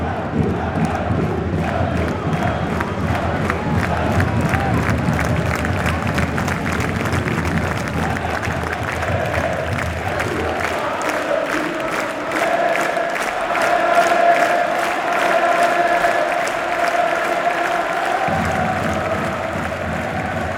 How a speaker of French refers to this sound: En fait, ça arrive tellement peu souvent d'être tous aussi contents pour la même chose. 10 000 personnes qui se lèvent d'un coup, qui hurlent, mais ça, c'est... Ça donne un peu foi en l'humanité.